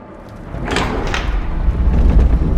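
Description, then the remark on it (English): A heavy ancient trap door, triggered by pressing tiles, grinds open with a deep, swelling rumble, a couple of scraping bursts early on, then growing louder over a few seconds, with no voices. “I think those tiles triggered an ancient trap door.”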